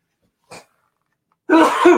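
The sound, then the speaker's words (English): A person sneezes once, loud: a short sharp intake, a pause, then a forceful voiced burst that trails off over half a second. “Besides me sneezing.”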